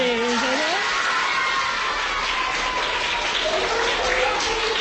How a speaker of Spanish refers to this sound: saludamos también a 50 niños del Colegio Diocesano Asunción de Nuestra Señora, que están aquí de público y se están portando fenomenal. Están aplaudiendo, están aplaudiendo. Se les puede escuchar.